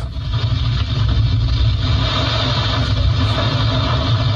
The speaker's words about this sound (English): Audio from one of the school buses caught in the storm. Everybody get to the middle of the bus.